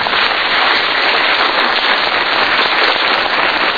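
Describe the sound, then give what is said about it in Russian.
A large audience of the Russian TV programme Dezhurny po strane on Red Square applauds steadily and loudly on an overcast Friday evening, a dense, continuous wash of many hands clapping with no break and no voices over it. “Мне кажется, хорошие зрители, они знают, когда аплодировать и как.”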